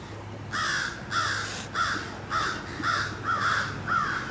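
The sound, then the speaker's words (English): Several crows caw in a rapid, overlapping series of harsh calls, about seven in four seconds, loud, with a faint low hum beneath, as they land on a roof and argue with each other. “If you can hear it, a bunch of crows came immediately and landed on the roof and started arguing with each other.”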